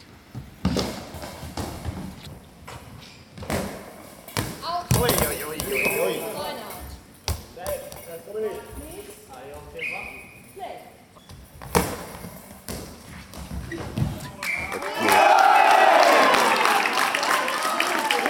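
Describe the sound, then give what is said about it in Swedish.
A handball thuds hard off the floor and into the goal amid scattered bouncing thumps, with talking throughout, during a Sweden versus Algeria match; the hard bouncing shot is a Swedish goal making it 8-2. A loud crowd erupts in cheers near the end. “Det gör ett hårt studsande skott som går in.”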